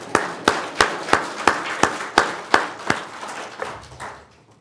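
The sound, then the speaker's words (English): Steady, rhythmic clapping in unison at a church service, applause for the Korean people: about ten sharp, loud claps at an even beat, then loosening into scattered, softer claps that fade out. No one speaks. “Another applause, all right?”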